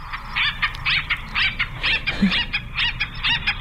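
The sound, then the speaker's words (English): An acorn woodpecker calls in a rapid, raucous series of about eight nasal, laughing notes, steady and fairly loud, with no voices over it. “And I could listen to all of these fun conversations and funny conversations because they're known for these different calls, like this one.”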